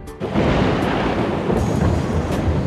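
A raging thunderstorm roars loud, with a continuous rolling rumble of thunder over a dense wash of rain noise, steady throughout with no voices.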